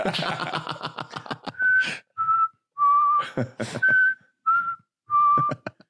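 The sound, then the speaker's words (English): A simple recorder-like melody is whistled: about six clear, sustained mid-high notes with small pitch slides, separated by short gaps. Muffled voices and clatter come before and between them. “The curtain just playing perfect recorder sounds.”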